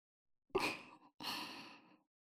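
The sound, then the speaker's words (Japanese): Two soft, airy breaths blown into the listener's ear in quick succession, each a broad hiss of air lasting about half a second to a second, with no speech. “まず最初はこのかわいいかわいいお耳、たくさんふうふうしまーす。”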